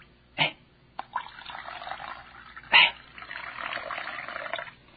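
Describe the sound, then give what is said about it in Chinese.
Water is poured into a basin for washing feet, a steady splashing trickle broken by a couple of sharper sloshing bursts, moderately loud, with no voices. “他站起来了，脱去了外衣，又倒水在盆里。”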